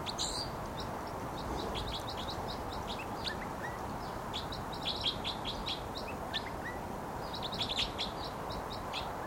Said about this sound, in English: flight song there by the wild bird who's vocalizing. And he just moved to another perch. And this is still that wild bird who gave the flight song.